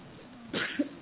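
A single quick sneeze, a sharp breathy burst followed by a brief voiced tail, somewhat distant and soft against a quiet room background, with no talking.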